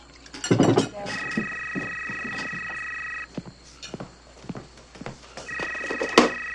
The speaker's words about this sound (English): Later, at dinner. I'll get the phone. I'll get the phone.